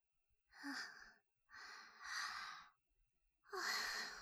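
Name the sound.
yawn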